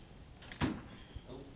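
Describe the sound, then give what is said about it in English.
A door shuts with a solid thud, followed a moment later by a softer knock as it settles, against a quiet indoor background with no talking. “No, you get a terrific draft under that door. If you got this one shut, you don't get it.”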